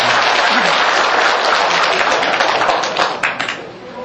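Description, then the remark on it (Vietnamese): An audience breaks into steady, dense applause for a doctor, many hands clapping together in a continuous crackling wash that holds loud for a few seconds before starting to thin out and fade. “Cho bác sĩ cầm pháo tay lớn.”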